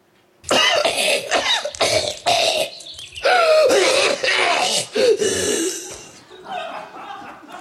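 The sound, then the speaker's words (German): A rapid series of varied coughs follows one after another, some harsh and throaty, others short and hacking, with throat clearing mixed in, all loud with brief gaps between bursts. “Also, ja, wann hört man sich so diverse Huster in dieser Reihenfolge?”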